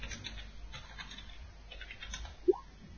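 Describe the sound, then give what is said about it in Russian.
Faint, irregular clicking of a computer keyboard whose keys stick, being typed on, soft, with a brief higher-pitched chirp near the end and no voices. “У меня клавиатура, блин, тупая. Клавиатура не любит слэш.”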